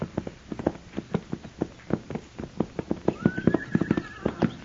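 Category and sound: animal, horses walking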